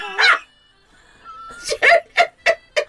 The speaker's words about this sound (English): I've just had an unexpected ringtone that I've never heard before coming out of my phone.